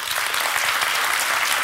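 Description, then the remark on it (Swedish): A live audience applauds steadily, a dense wash of many hands clapping, holding an even loudness throughout with no voices standing out. “Ska vi bara för hur många har sett det här Grotesco avsnittet applådera?”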